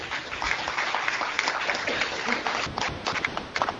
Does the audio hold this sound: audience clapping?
yes